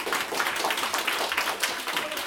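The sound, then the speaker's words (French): An audience applauds the participants of a debate about wearing socks with sandals, a dense wash of many hands clapping at once, loud and sustained throughout with no voices standing out. “Et vous, si vous êtes pour les claquettes chaussettes, vous pouvez applaudir d'autant plus fort.”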